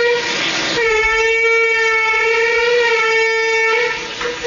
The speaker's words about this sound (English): At first, I thought it was like a boat. And I was like, damn, son, you got a boat going by your yard. That water's up high. But apparently, it's not a boat. It's just the wind settling into the house or rushing by.